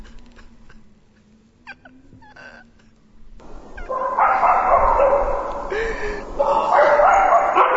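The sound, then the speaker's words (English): A low steady hum plays quietly, then a pack of dogs bursts into loud, overlapping barking and yelping that continues without a break to the end. “Oh, I shall have to kill every damn dog in this kingdom as well!”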